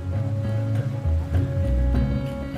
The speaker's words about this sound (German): Eine Verfolgungsjagd mitten auf dem Amazonas. Ich sitze auf einem Schnellboot, neben mir drei Polizisten. Wir sind auf der Suche nach einem Flüchtigen. Irgendwo hier, im Regenwald.